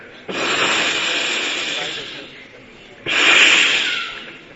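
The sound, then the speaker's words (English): Two long, breathy hisses, like snakes hissing, probably a voice imitating them: the first lasts about two seconds, then a short pause before a second, louder one. “What is that? So many snakes trying to bite him.”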